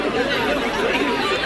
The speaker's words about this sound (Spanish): Vamos a hablar con alguno de estos chicos que están disfrazados de esta manera. Todo un griterío, ¿no?